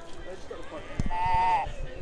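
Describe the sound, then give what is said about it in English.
A single short, tinny sheep bleat, likely from a toy sound button, sounds over soft background chatter and a few low knocks and thumps. “It's a sheep.”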